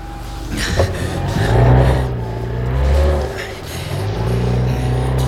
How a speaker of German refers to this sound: werfen Sie den Motor an!